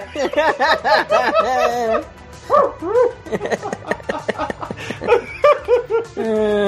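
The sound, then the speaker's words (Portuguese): A pack of dogs barking and yelping over one another, a dense, loud chorus of overlapping barks that keeps going with only brief pauses. “Eita, é cachorrada, né? Olha a cachorrada, mano.”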